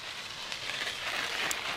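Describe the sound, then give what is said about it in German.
A bicycle rolls over snow and ice in Oulu on Finland's west coast, its tyres making a steady crackling crunch with a soft, hissing texture that holds at an even loudness, with no voices. “So klingt es, mit dem Fahrrad über Schnee und Eis zu fahren.”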